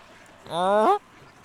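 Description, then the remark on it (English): A single drawn-out quack from a black duck with a short black bill, loud, lasting about half a second with a nasal, buzzy tone that lifts slightly at the end, then quiet. “That she does look like a call duck.”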